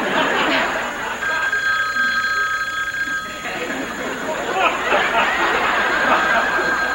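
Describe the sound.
Many telephones ring at once in a dense, overlapping clamor that fills the whole stretch, with a busy murmur of voices mixed in underneath.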